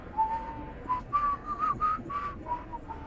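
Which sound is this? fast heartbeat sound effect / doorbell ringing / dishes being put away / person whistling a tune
person whistling a tune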